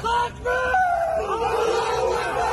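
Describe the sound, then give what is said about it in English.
A group of Chechen fighters helping Russia shout together in loud, celebratory cries while raising a Soviet flag in the city of Lysychansk, Ukraine, their overlapping voices rising and sustained for a couple of seconds, energetic with no ordinary speech. “Footage released by Chechen fighters helping Russia showed them raising a Soviet flag in the city and shouting in celebration.”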